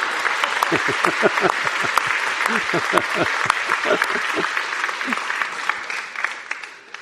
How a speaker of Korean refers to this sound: 한 번 더 박수 드리겠습니다. 언제 뭐 무슨 곡으로도 반주를 할 수 있는 우리 박상현 형제한테도 박수 한번 부탁드립니다.